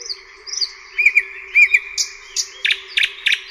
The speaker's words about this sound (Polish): Na nieszczęście mało osób potrafi odróżnić tego słowika. Oczywiście znamy słowika z literatury. Tak naprawdę bardzo mało osób odróżnia głos słowika.